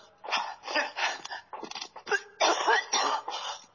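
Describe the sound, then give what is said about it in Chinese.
A person coughs repeatedly in a long fit, a rapid series of harsh, raspy bursts with a few strained, throaty breaths between them, fairly loud; the coughing comes on whenever the person moves. “我就是一动就咳嗽，不能。”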